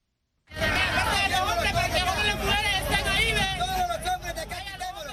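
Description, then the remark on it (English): A large crowd of Central American migrants gathered at the border between Mexico and Guatemala murmurs and chatters continuously, many overlapping voices blending into a dense hubbub, with a low rumble of traffic or engines underneath throughout. “Sounds of a crowd of Central American migrants that has drawn the ire of U.S. President Trump.”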